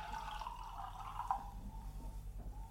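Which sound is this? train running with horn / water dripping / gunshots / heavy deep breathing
water dripping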